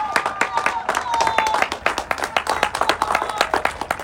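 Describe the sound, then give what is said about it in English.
A crowd gives a round of applause to parents, family, friends, teachers, coaches, mentors, counselors, administrators and other support staff, with dense, rapid clapping that holds steady at a fairly loud level for several seconds, with a few cheers and voices mixed in. “With that being said, I ask you to give your parents, family, friends, teachers, coaches, mentors, counselors, administrators, and other support staff a round of applause.”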